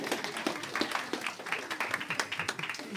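A group applauds themselves after doing a movement exercise, many hands clapping in a dense, uneven patter that holds steady for a few seconds, with a few voices faintly mixed in beneath the claps.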